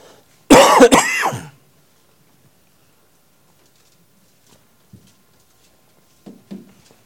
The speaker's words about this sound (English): Pardon my cough this morning. We were on holiday in France 2 weeks ago and I brought this back. And French coughs, it turns out, are far more difficult than British coughs.